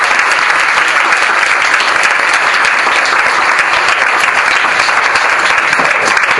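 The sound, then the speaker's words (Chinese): An audience claps steadily for several seconds at a talk, welcoming a nutrition consultant, a dense, even wash of many hands with no clear individual claps standing out and no pause in the sound. “我哋俾啲掌声”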